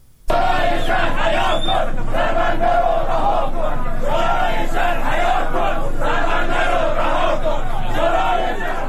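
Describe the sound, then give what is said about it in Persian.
A large crowd of Bandar Imam residents, Khuzestan province, protesting on a Thursday night, chants loudly in unison, voices rising and falling in repeated rhythmic phrases that continue without a break for the full length. “در همین حال، وبسایت عصر جنوب فیلمی از اعتراضات پنجشنبه شب شماری از مردم بندر امام منتشر کرد.”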